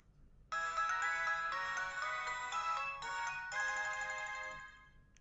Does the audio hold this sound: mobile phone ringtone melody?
yes